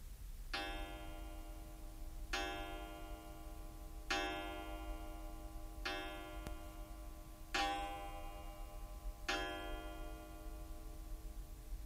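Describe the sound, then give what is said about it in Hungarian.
A clock strikes six times at six o'clock, each ringing chime evenly spaced about two seconds apart and fading slowly, loud with no voices. “Ki indította meg az órát? Én nem nyúltam hozzá.”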